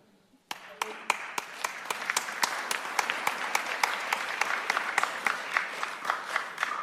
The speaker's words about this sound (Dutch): Sommigen klappen wel heel enthousiast.